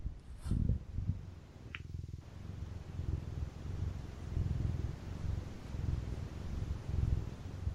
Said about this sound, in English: Cat purring. Oh, everyone, I can't hear it.